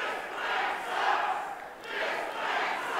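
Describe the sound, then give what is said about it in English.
A crowd at a question session with Sessions shouts and calls out together in response to his claim about health insurance, a loud, sustained roar of overlapping voices that swells, dips briefly, then rises again. “Crowd response?”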